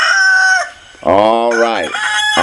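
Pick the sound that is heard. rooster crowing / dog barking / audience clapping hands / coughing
rooster crowing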